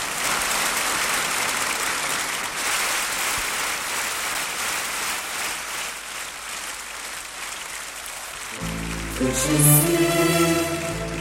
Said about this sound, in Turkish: Evet, sizler alkışlıyorsunuz ve ben şöyle sesleniyorum.